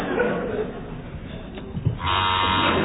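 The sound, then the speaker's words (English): A harsh electric quiz buzzer sounds abruptly, holding a loud, steady rasping drone for about a second after a stretch of quiet murmuring and room noise. “Fingers on buzzers, please.”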